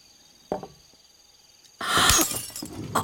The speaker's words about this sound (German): Scherben bringen Glück. Na, dann sollte ich vielleicht noch ein Glas runterwerfen.